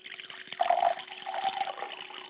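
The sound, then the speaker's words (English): A little semi-dry wine with soft melon flavors pours into a glass in a short, bubbling trickle, its gurgling tone rising in pitch as the glass fills, with a brief second splash of liquid before it tapers off. “Just a little bit in the glass. Just a little, I promise.”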